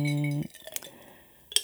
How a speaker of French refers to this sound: C'est les bruits des glaçons, ça, je dis aux gens. Parce qu'ils doivent entendre, en fait. Et là, elle a posé le verre.